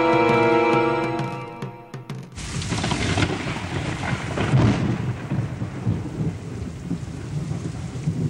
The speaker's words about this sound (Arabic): هذا المطر هو بداية السنوات السبع من الوفرة والخصب.